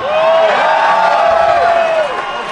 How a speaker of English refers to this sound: Now, a lot of you cheer, but you don't believe that Sasquatch